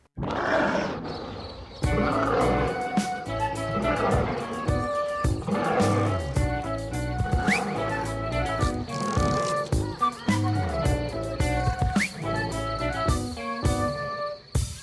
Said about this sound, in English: So we're going to start with some music though, and this is the tune